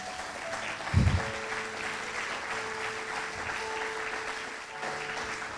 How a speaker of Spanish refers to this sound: Aplaudan, che.